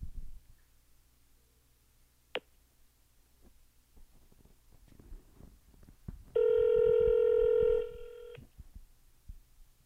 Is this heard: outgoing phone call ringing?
yes